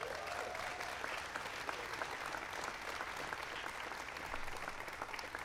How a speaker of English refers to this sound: So you can give them all a big round of applause.